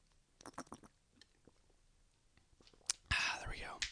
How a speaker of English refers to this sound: And, you know, just taking a lot of fluids, so taking some periodic sips of water like this right now.